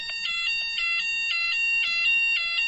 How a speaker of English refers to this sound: There's a fire alarm again. Hang on.